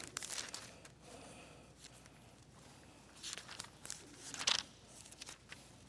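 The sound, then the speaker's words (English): Soft, scattered rustling of Bible pages being turned as people look up Galatians chapter 2, several brief crinkly flips overlapping, with no one speaking. “And I love to hear the pages turning.”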